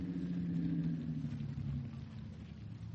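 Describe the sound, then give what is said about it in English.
A car engine hums and rumbles steadily, a low droning pitch sliding slightly as the vehicle rolls forward, driving in at a house, with no voices over it. “Well, let's drive in.”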